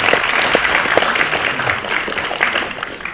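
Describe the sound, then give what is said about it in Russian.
A second round of audience applause fills the whole stretch, a dense wash of many hands clapping at an even, fairly loud level with scattered sharper claps poking through and no voices. “Давайте проводим второй аплодисмент.”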